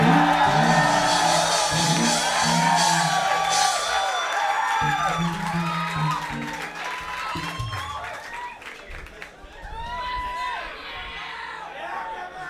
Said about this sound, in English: Can we get a round of applause for the Professor of Love?